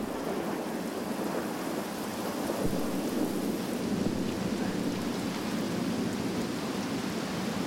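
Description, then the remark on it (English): A sudden, heavy, steady downpour in a jungle hisses and patters continuously with a low rumbling undertone of thunder, loud throughout, with no voices. “Rain, you gotta love it, eh?”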